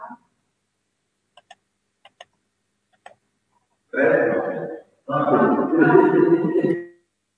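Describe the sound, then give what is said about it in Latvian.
A voting bell in a parliament chamber rings in two loud, buzzing bursts, a short one then a longer one, after a few faint clicks in an otherwise quiet room, called before deputies vote on proposal 13. “Lūdzu zvanu, balsosim par 13.”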